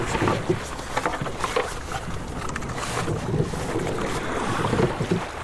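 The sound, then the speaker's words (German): A rowing boat moves over water, with steady splashing and lapping mixed with gusty wind noise across the microphone, continuous, with no voices. “Ich gehe mal davon aus, dass wir die Ersten in den letzten Jahren sind, die mit dem Boot fahren.”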